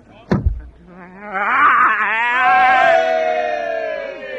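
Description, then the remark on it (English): A sharp knock or thump, then a long, loud, quavering sheep bleat that wavers in pitch for about three seconds, with no talking over it. “Hey, look a flying sheep.”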